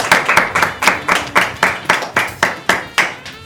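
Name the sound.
children applauding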